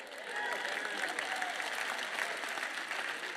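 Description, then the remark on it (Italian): Thin, scattered applause from an audience, a steady patter of claps at moderate volume lasting a few seconds, with faint voices murmuring underneath. “Si capisce dall'intensità dei vostri applausi se siete d'accordo con me o non lo siete.”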